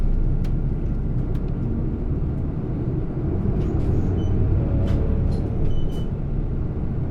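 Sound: city bus engine running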